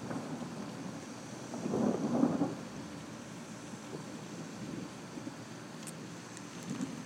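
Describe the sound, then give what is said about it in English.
Low, rolling thunder following a lightning flash during a thunderstorm swells for a couple of seconds and then fades over a steady hiss of wind and light rain, with no voices. “See the lightning? Get the thunder.”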